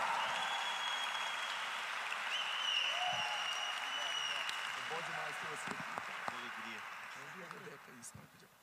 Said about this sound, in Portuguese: Então eu queria que você recebesse com o melhor aplauso que você puder